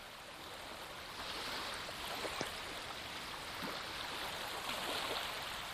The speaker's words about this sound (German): Sauge es nun mit diesem Bild, mit der Visualisierung und mit diesem Geräusch des Meeresrauschen in dir auf.